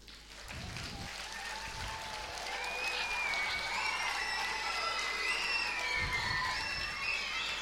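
An audience at a whole-school project event gives itself sustained applause mixed with cheering and high-pitched whoops, the clapping dense and steady throughout, swelling slightly louder midway and holding for several seconds.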